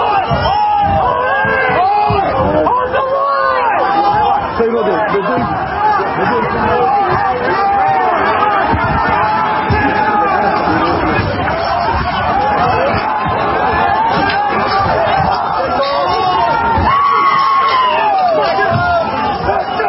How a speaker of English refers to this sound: Just try and keep ahead of them. Crowd moving along nicely.